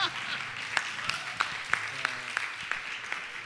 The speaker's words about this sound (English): By the way, we're not an emerald, so we can clap loudly now.